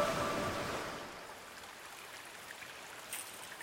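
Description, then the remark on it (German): A steady babbling stream burbles in a forest clearing in the Bavarian Forest National Park, Germany, at the start of autumn, with a couple of faint, brief bird chirps near the start amid the continuous rush of water, no voices present. “Es plätschert und zwitschert und knistert um uns rum.”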